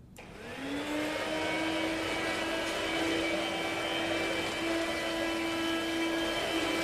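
A vacuum cleaner switches on and spins up within the first second, then runs steadily and loudly with a constant high whine and broad motor roar as a mother vacuums the carpet, no voices present.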